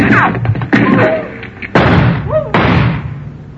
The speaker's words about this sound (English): left in the direction those shots came from.